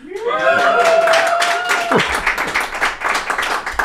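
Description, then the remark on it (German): A live audience of about 300 to 400 people at a sold-out show at the Escape Room in Jahn bursts into steady, dense clapping, with a loud sustained whoop riding over it for the first half before dropping away, leaving the applause to continue on its own. “Lasst es mal krachen, die 300-400 Menschen hier.”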